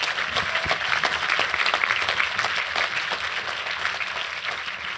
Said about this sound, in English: Please give John a huge round of applause.